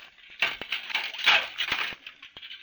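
Dinner dishes being washed: a steady wash of splashing and scraping broken by several sharp clinks of crockery, moderately loud, with no voices.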